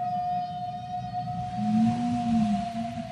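A whale call sounds alone: a long, low, moaning tone swells in midway and slowly bends, over a steady high hum and a faint watery rumble.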